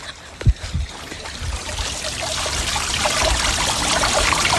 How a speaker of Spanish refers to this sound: La fuente... del agua y de... Vamos a escuchar el agua, un momentito.